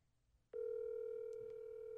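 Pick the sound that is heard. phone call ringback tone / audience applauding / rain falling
phone call ringback tone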